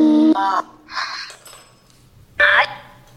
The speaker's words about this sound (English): I also have the dead bell going, so that's kind of like almost like a K2 meter in a bell form, and it rings when that breaks that.